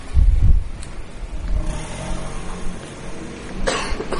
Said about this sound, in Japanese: この交通量で信号がないっていうここ本当にちょっとドキドキする。